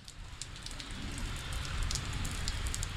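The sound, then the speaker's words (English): Heavy rain pours down steadily at the end of a July day in Pearl Lagoon, a dense hiss of water with scattered sharper drop patters over a deep rumbling wash, continuous with no voices. “Towards the end of a July day in Pearl Lagoon, the skies open up and the rain comes pouring down.”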